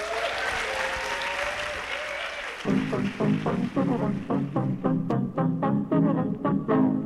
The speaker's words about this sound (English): We are here live at the Garneau Theatre for Edmonton Lit Fest. Thank you very much. Please, a warm round of applause for our panel.